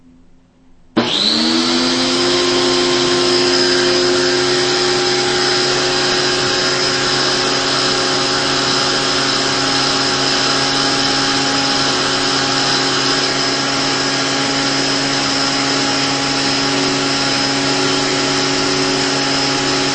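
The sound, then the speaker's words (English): A Wessel-Werk EBK-340 universal vacuum powerhead, not connected to a vacuum hose, kicks its brush roll on abruptly; it spins at high speed, generating air of its own, giving a loud, steady motorized whir with a high whine that holds unbroken to the end. No one talks. “I mean, the brush on this thing spins so fast that it actually generates some air.”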